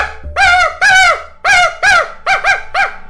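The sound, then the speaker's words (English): A human voice imitates a dog, letting out about seven loud, pitched barks in quick succession, with two shorter yaps tucked in near the end and no other talking, in an enclosed space among fellow campers. “And then I bark.”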